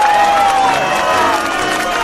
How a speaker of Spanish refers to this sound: Queridos amigos, para Huck Finn y para Tom Sawyer, pido un fuerte, fortísimo aplauso.